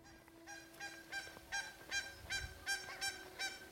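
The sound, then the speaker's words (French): Geese honk over and over in a quick, steady rhythm, with several harsh calls overlapping above a faint constant hum, in the Cantal, France. No one speaks. “volons avec les oies.”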